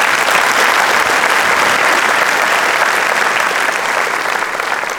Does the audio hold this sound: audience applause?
yes